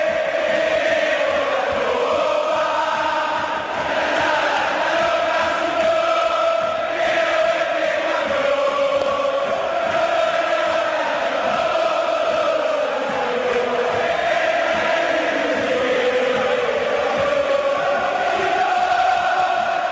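A large crowd of São Lourenço football fans sings the traditional stadium chant Queremos la Copa, the song of their 2014 winning campaign, in unison, a dense, steady wall of voices holding a repeating melody at full volume for the whole stretch, with no one speaking over it.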